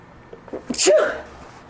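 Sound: sneeze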